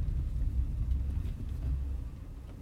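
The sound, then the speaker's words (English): An overheating red BMW car engine rumbles low, steady and moderately loud as it comes to a stop, with a faint rough texture throughout and a brief click right at the end. No one speaks. “What's that noise? I don't know. Look at the temperature gauge. Damn! We're boiling. Well, stop, quickly.”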